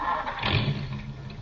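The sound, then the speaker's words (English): A car engine is started up so it can be checked for a knock: it cranks and catches, its low rumble swelling briefly before settling into a steady mechanical drone, moderately loud, with no voices. “I seem to have a knock in my engine. Let me hear it. Start her up.”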